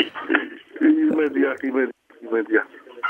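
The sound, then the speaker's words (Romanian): A caller's radio plays in the background over a narrow, tinny phone line during a call-in: muffled broadcast voices run almost continuously at moderate loudness, with one brief gap of silence. “Puteți să dați mai încet televizorul sau radioul pentru că”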